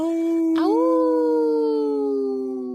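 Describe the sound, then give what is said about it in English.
A single long wolf howl, loud, swelling upward in pitch early on, then holding a steady, mournful tone before slowly fading, with no other sounds around it. “that's where you were supposed to howl.”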